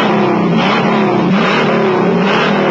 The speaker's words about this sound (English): And power as big as a new 428 Cobra Jet Ram Air induction V8 option. To make the Mach 1 the hottest car in Mustang's class. An 8 so hot performing, it comes with its own poke-through air cleaner that jumps when the engine grinds.